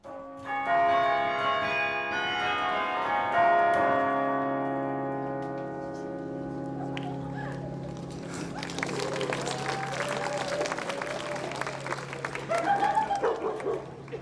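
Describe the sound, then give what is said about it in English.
Campus tower chime bells, tuned in 1999, ring out a tune in resonant, overlapping notes that linger and slowly fade, followed by outdoor bustle with a dog barking excitedly. “As the number of bells increased and the musical range expanded, it became possible to play many more songs in a variety of musical keys.”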